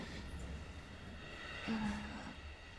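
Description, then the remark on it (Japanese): Steady low rumble and hiss of a moving train heard from inside a carriage, fairly quiet and continuous, with a brief faint tonal whine partway through and no talking. “改札とか電車とか、世の中はわからないことだらけだ。”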